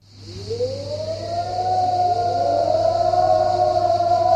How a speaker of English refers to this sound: A siren sounds at dawn in Cyprus, exactly half a century after the invasion which left the island divided.